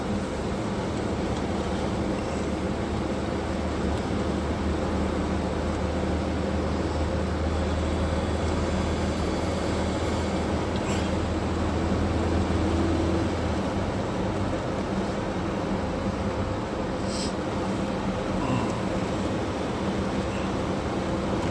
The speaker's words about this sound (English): What a wonderful thing the internal combustion engine is.